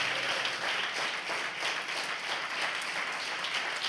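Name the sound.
audience applauding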